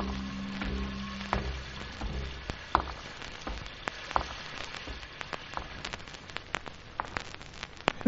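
A steady patter of raindrops blends with dense, irregular crackling like a worn vinyl record, sharp clicks scattered throughout; a faint low musical tone fades out in the first couple of seconds.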